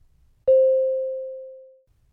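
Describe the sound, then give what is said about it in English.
A single mid-pitched beep signalling the start of a role-play turn rings out clearly on its own, striking sharply and then fading smoothly over about a second and a half, with no talking around it. “Start after the beep.”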